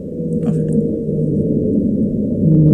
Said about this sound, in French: Oui, baleine bleue, écoutez, par exemple, on peut écouter justement le son de la baleine bleue pour avoir une comparaison.